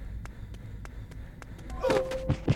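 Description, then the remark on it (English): Sharp electrical crackling from an exit light, a string of quick snapping clicks that swells into a denser sputtering buzz with a thin hum near the end, moderately loud. “That sparky sound is the sound of the light, the exit.”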